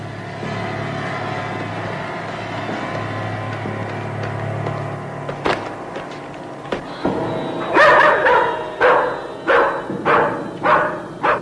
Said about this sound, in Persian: این بار صدای سگ‌ها بلند میشه.